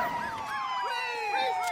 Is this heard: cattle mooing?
no